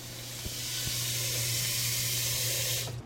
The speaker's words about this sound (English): I'm going to just rinse them under cold water and then lay them out.